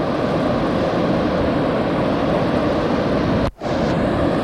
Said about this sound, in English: But I don't know why they have to buzz the beach so close. It gets a little bit low at times. I think they're going to go in the water or something, the way they look.